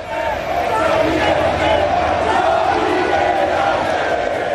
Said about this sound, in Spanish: Gritos de Xavi, quédate, por parte de los aficionados madridistas.